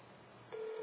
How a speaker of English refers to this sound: It's ringing.